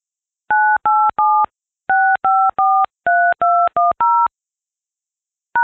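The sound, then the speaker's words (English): Touch-tone keypad beeps dial a phone number into an automated voicemail system's prompt: ten crisp, loud tones in quick groups of three, three and four, then a pause and one more beep. No one speaks. The system then rejects the number as invalid. “Enter a phone number or a list number and then press the pound key.”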